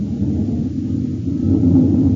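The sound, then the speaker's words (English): The engine of a U.S. Air Force Northrop F-89D Scorpion fighter interceptor roars steadily as it prepares to take off, a loud, dense low rumble that holds without pause and swells slightly toward the end, with no voices over it. “It's the roar of the Scorpion as he prepares to take it up.”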